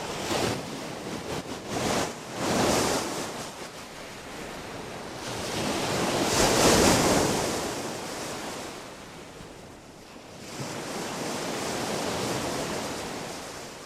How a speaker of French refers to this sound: Vous l'avez sûrement reconnu, le bruit des vagues.